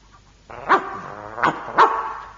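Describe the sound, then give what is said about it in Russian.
A dog barks three times, fairly loud, with short gaps between the barks and a steady whining or growling tone running underneath. “А слышал я, будто ты хвастала, что по собачьи понимаешь.”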